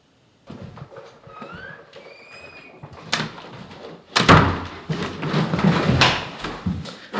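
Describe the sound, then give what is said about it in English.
An apartment door creaks and squeaks as it swings, followed by a loud slam and rattling of the latch and frame as it is pulled shut. No one speaks. “I just shut the door to my apartment and, well, it's not my apartment anymore, and I'm leaving it behind.”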